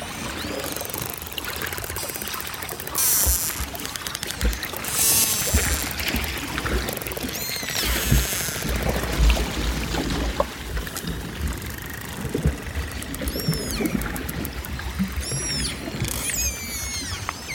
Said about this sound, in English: all the action is under the sea ice, and everything under the sea ice lives in a world of sound and vibration. So it's full of sound, it's a very sound-rich place.